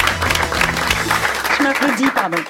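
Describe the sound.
An audience applauds a guest arriving on the radio show La Bande Originale, a dense, steady wash of clapping that holds at an even level throughout, while a voice speaks over it toward the end.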